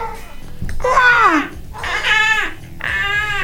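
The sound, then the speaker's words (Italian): A person imitates an eagle's cry with three strained, high-pitched screeching calls, each bending in pitch, separated by short pauses. “Ah, ok, verso Mo fanno il verso dell'aquila, come fa l'aquila?”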